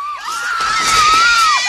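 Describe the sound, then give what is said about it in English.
A woman's high, piercing scream, Kate Capshaw's character in the film Indiana Jones and the Temple of Doom, held steadily for nearly two seconds, loud, with a slight wavering pitch and no talking. “Kate Capshaw's character just never stops screaming.”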